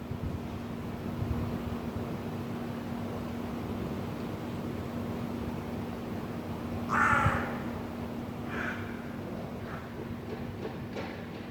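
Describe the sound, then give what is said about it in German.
Crows caw a few times in the echoing inner courtyard of an old apartment building in Vienna's 1030 district, heard through open windows, one louder call around the middle and fainter ones after, over a steady background hum of city noise. “Das höre ich, wenn ich die Fenster öffne. Altbau-Innenhof, 1030 Wien. Seit einigen Wochen wohnen hier auch Krähen.”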